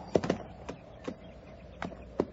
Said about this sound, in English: Oh, hold still, horse. I'll mash your sides in.